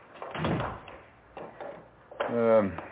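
An electronically operated two-way glass door, opened by a button pressed from the living room, opens: a couple of soft mechanical thumps and rumbles, then a short motorized whine as the door slides open, moderately loud.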